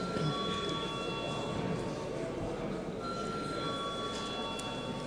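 A continuous electric bell rings steadily and loudly in parliament as deputies are called to vote on a committee proposal, a harsh buzzing clang with a few sustained metallic tones and no pauses or speech.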